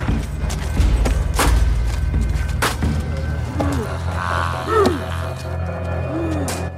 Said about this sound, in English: Big Daddy slaps the boarded up fence, then turns to the butcher zombie who grips a meat cleaver.